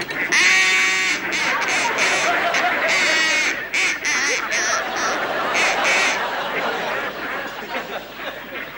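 ducks quacking

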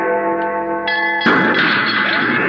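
fire alarm bell ringing

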